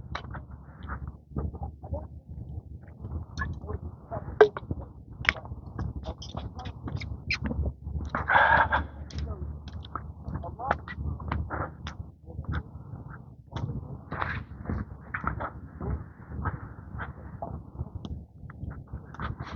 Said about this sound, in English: Can hear little birds chirping. Some of those are sparrows.